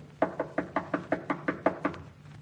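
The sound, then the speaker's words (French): About ten quick, evenly spaced, fairly loud knocks on the wooden door of a house in a forest at nightfall, in a steady rhythm with no voices. “Il y conduisit ses frères et heurta à la porte.”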